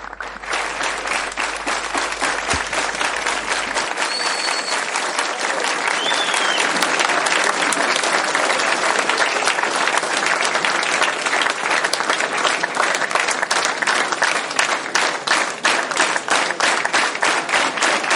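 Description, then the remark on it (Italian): A sustained round of audience applause for a group from Moscow, dense overlapping claps from a sizable crowd, steady and loud throughout, with no talking heard over it. “Si meritano gli applausi.”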